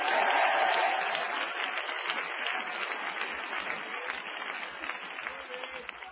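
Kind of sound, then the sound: crowd, audience clapping and cheering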